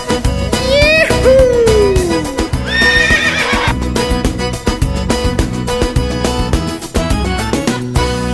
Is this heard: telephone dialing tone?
no